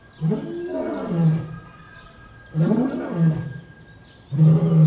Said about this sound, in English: Like a loud lion roaring? Yeah, like this sound right here?